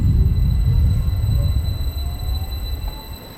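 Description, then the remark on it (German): A train departs from a station platform, rumbling with heavy low-frequency noise and faint squealing tones, the sound gradually easing as it pulls away. “Nein, er fährt!”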